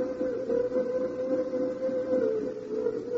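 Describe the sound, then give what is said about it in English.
A train rolls along with a steady, dense rumble and a sustained mid-pitched tone running over it, fairly loud and unbroken for the whole stretch, with no voices. “You'll be hearing even more often the rhythmic roll of the train.”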